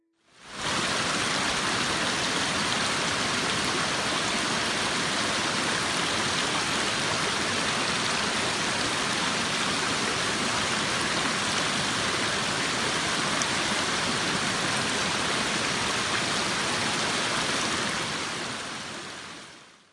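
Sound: flowing river water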